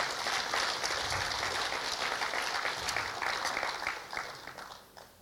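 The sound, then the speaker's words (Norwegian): A crowd applauds steadily, dense clapping filling the air at full strength for several seconds before gradually thinning and fading out near the end. “Gi han en kjempestor applaus.”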